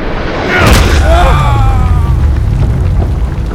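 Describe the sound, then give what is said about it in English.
A heavy explosive blast from a pounding strike into the earth hits with a sharp, crackling burst, then rolls into a loud, sustained low rumble with faint ringing streaks fading over a few seconds. “Blast, sending all the enemies around him flying.”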